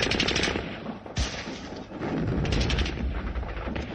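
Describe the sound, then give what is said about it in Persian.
Sustained bursts of machine-gun fire mixed with rifle shots, loud and continuous, with rapid crackling reports and a heavier boom around the middle; the gunfire carried all the way to a residential neighbourhood; no one speaks. “آقا یک مرتبه صدای مسلسل و صدای این تفنگ ها تا اون تبر محله صداش می آمد.”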